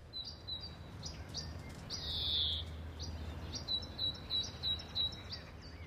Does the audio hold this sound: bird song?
yes